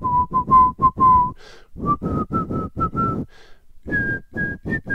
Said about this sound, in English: The farmer in the dell. He doesn't sing the last part. He whistles the whole time.